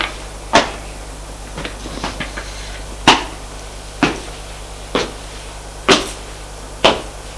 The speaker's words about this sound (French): Enfin, arrivé au cinquième étage, elle va ouvrir la porte de son appartement, la porte de gauche. Ouvre la porte, éclaire.